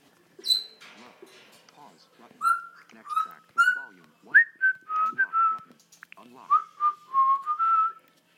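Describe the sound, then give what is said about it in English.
A parrot named Lily whistles a broken series of short, clear mid-pitched notes, some sliding upward, after a few scratchy chirps and mumbled squawks at the start. “You crazy parrot.”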